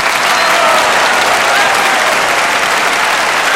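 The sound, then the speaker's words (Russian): A large concert audience applauds a song loudly and steadily, dense overlapping clapping that holds at full strength for the whole few seconds without letting up. “Какая тишина, но никто не хлопает. Неужели песня не понравилась?”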